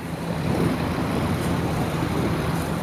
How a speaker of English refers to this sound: I had to stick to my boat beneath the bridge. Most of the tape I got was muffled by the sounds of a running motor and the rushing water, like this.